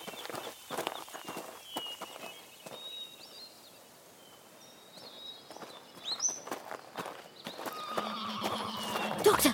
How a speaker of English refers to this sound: Did you hear that? The mountain horse. It is real.